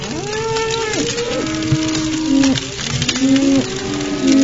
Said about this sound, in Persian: چون آتش شونه می کشید، گاو ترسان و نعره زنان راه گریز در پیش می گرفت. پس مردم آن آتش دونده را شبیهی از آذرخش و آن نعره های گاو را شبیهی از رعد آسمان می دهند